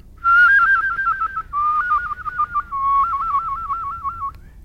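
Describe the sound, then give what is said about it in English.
A clear human whistle warbles rapidly between two neighboring notes in three trilled phrases, each stepping slightly lower in pitch, with no talking. “Trills.”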